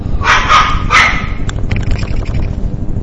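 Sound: dog barking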